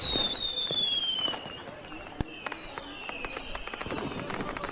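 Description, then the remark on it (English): A high whistle glides downward, then a sharp bang bursts out, followed by a steady scatter of crackling pops as fireworks go off overhead at a Founders Day festival in the city of Gear Hollow, over a faint background murmur. “The city of Gear Hollow is the site of a spectacular Founders Day festival, with fireworks overhead, partying in the streets, and a skittish goblin desperate to escape it all.”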